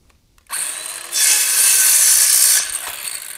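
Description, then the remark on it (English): A cordless power saw whirs up and bites into a wooden board, its harsh, buzzing cut growing louder for about a second and a half before winding down. Loud, no talking. “I'm going to use the cordless drill. Or the cordless saw, excuse me.”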